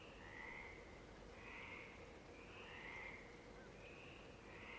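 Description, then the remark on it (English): A chorus of frogs trills in repeated pulsing bursts at night, around 1 a.m., in Monterosso, a village above the ocean in Italy. Several calls overlap over a steady low background hum, with no voices present. “A village perched above the ocean is gifted with songs of frogs.”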